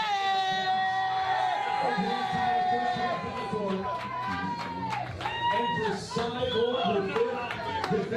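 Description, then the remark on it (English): At a face-off, the fighter Cyborg's loud, sustained battle yell rings out over a roaring arena crowd, followed by shorter shouts and cheering that continue throughout. “The Cyborg lets out a battle yell.”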